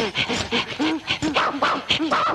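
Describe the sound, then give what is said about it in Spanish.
Dogs pant rapidly and steadily, with high, wavering whines and whimpers breaking through the breathing, sounding eager and restless throughout as they beg for leftover food from a plate. “A ver, perros, pida su pedazo.”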